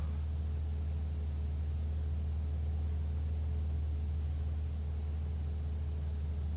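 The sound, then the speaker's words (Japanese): A car's engine drones low and steady as it drives, a constant rumble with a soft hiss of road noise and no voices throughout. “俺の車は進んでいる。ある一点を目指して進んでいる。”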